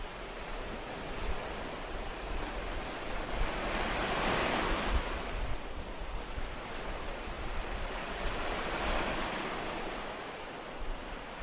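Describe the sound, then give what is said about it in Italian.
Steady sea waves wash in continuously, a broad rushing surf that swells and recedes in slow surges, with some wind noise and no voices. “E questo è bello perché poi il rumore delle onde del mare aggiungono questo fascino in più, insomma.”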